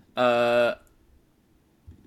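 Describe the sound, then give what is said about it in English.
A grizzly bear roar: one loud, sustained, tonal bellow lasting about half a second with a rich, buzzing harmonic quality, followed by quiet low rumbling and a faint thump at the end. “Number two is going to be a grizzly roar.”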